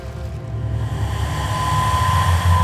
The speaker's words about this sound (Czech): Na útesech zuří bouře. Hustý déšť zalévá okolí a vlny mocně narážejí na skaliska. Neutuchající vítr téměř zastiňuje jakékoliv zvuky.